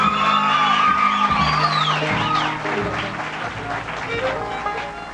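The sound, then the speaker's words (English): Loud, sustained applause from a crowd for a fiddler being introduced, with whoops and shouts riding on top, a few rising whistled cheers early on, gradually easing off over five seconds. “Give him a hand.”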